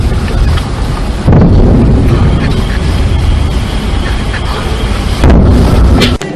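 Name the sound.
explosions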